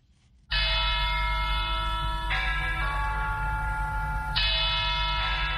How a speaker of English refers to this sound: Church bells ring at Our Lady of Victory's Cathedral in Yaoundé, inviting Catholics to a mass to be said by Metropolitan Archbishop Jean Mbarga.